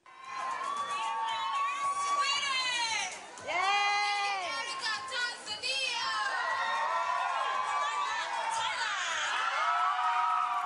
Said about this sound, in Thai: ครับเสียงกองเชียร์ชาวไทยจำนวนไม่น้อยเดินทางไปให้กำลังใจนางสาวมาริยาภูลเลิศลาภตัวแทนประเทศไทยบนเวทีประกวดนางงามจักรวาลหรือ Miss Universe ครั้งที่66ประจำปี2017ที่นครลาสเวกัสรัฐเนวาดา